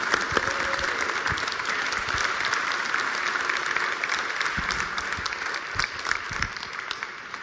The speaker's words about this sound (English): And can we give a round of applause to our panel?